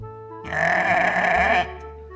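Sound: lamb bleating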